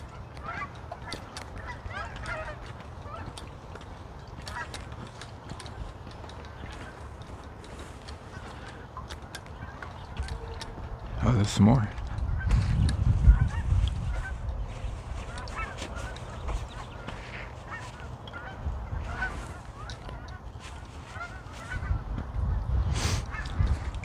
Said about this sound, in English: Ooh, I hear gooses.